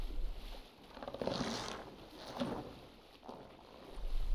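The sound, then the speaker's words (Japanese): Soft water sloshes against a small boat out in bright sunshine, in slow, rhythmic swells rising and fading about once a second, with a low hollow rumble underneath as the hull gently rocks. “たっぷりと日差しの注ぐこのボートの上で、どうぞ背中を上に横になられてくださいまし。”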